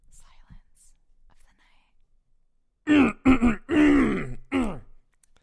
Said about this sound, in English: Oh, that's all clearing my throat.